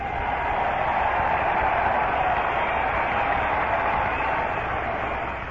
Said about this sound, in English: And once again, just as if they hadn't been demonstrating for him all these minutes, almost a quarter of an hour, they rise to their feet, cheering, waving paper fans, waving programs